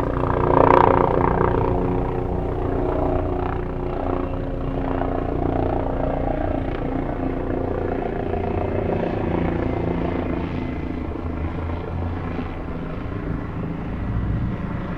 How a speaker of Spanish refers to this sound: Sábado 23 de noviembre de 2019, 3 de la tarde. El helicóptero patrulla Bogotá en un nuevo día de protestas.